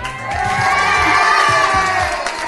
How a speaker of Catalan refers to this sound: Després d'aquests ànims,